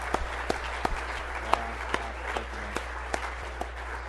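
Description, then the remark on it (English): Applause from a small crowd for songwriters who shared their songs, a soft wash of clapping with sharper individual claps landing at a steady, roughly regular pace, moderately loud and without any talking. “Hey, can we give a round of applause to those who shared their song?”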